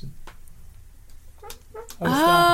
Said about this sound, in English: What is making that noise? It's a squeaking sound, and I'm getting blamed for it, and I'm not making squeaky sound. It's a squeaky sound.